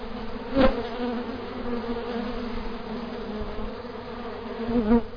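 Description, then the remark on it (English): A dense, steady hum of many honeybees at work inside a beehive, with the microphone stuck in among the bees, and a couple of louder bursts as bees brush past nearby. No one speaks. “I'm going to take you to a beehive and let you listen to it.”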